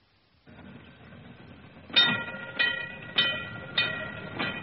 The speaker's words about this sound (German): Und was hören wir jetzt? Wir hören die Straßenbahn. Wir hören die Bahn.